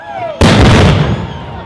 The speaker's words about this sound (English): That cannon sound from the James River Bateau Festival represents the Ohio Valley's role in the French and Indian War between England and France over control of North America.